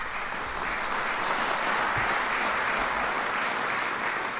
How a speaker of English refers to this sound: And one more time, a round of applause, ladies and gentlemen, for our outstanding young farmers.